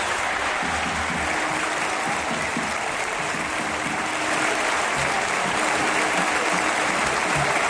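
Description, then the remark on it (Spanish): A large stadium crowd at an Athletic Bilbao match stands in the 9th minute and applauds the footballer Williams. The clapping is a dense wash that stays loud and even for several seconds and swells slightly toward the end, with no clear voices standing out. “Bueno, en el minuto 9, de hecho, todo el estadio se ha puesto en pie y ha hecho esto, aplaudir así a Williams.”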